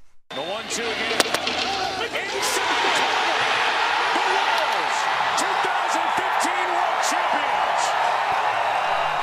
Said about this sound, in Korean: 예, 일요일 밤 캔자스리가 우승하는 순간 함성 소리 네. 잠시 들으셨는데요.